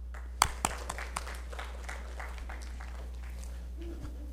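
A few sharp claps ring out, then an audience settles into a steady, moderate patter of applause that continues throughout over a low constant hum, with no one speaking.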